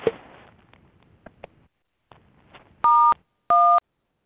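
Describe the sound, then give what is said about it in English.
Two distinct electronic keypad beeps from someone pressing keys on their phone during a conference call, each a steady dual tone lasting about a third of a second, sounding in quick succession after some faint rustling and clicks in the background. “Yeah, someone is beeping on their phone.”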